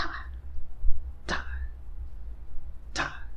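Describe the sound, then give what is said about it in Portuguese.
A voice imitates a cicada smacking against window glass: three sharp, quick thwacks, each ending in a short buzzy ring, spaced irregularly over a steady low hum. “apareceu uma cigarra e ficou batendo no vidro, cara, da janela”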